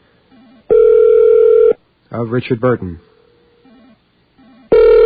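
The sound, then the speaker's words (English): A telephone ringback tone on an outgoing call to a home in Hollywood sounds for about a second, then a voice speaks briefly during the pause before the next ring begins, loud, as if heard through the line. “Okay, we are ringing the phone”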